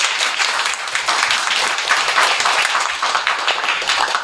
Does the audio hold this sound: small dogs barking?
no